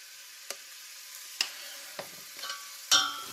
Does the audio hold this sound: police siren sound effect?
no